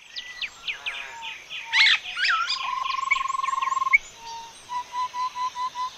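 A dense chorus of tropical bird calls recorded in Venezuela in 1972, played from a vinyl record: quick chirps and trills, a long steady whistle, then a run of evenly spaced repeated notes, all fairly loud with no talking.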